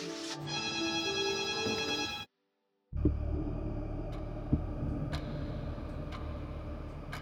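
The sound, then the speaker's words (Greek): A telephone rings at 7 in the morning with a steady, bright trill for about two seconds, then cuts off; after a brief silence comes a louder, noisy stretch with occasional sharp clicks. “Πάει λοιπόν 7 ώρα το τηλέφωνο.”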